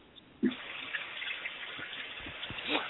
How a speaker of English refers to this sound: 416, sounds like you're taking a shower.